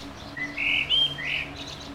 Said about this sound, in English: Is this your parrot? Yes, it is.